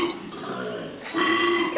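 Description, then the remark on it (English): A deep, rasping bellow from koalas fighting, two koalas, rumbles continuously for under two seconds, loud, with a guttural burp-like grunting quality that swells louder toward the end. “It was two koalas fighting.”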